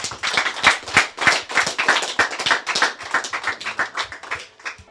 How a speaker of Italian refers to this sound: Facciamo un applauso, grazie.